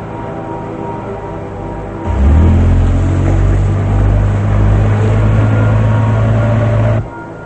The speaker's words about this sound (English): A white pickup truck has a package on the dashboard as it drives across a deserted drive-in theater and past the abandoned concessions building.